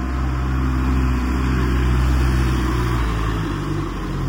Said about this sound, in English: Car coming up the hill.